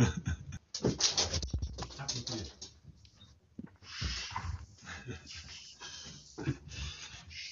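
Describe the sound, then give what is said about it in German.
A dog's paws patter and click irregularly across a hard floor as it is being let out, with occasional snuffling breaths and brief shuffles in between. “Sonst hört man hier die ganze Zeit seine Tatzen.”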